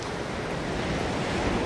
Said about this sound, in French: Voilà, j'entends la mer.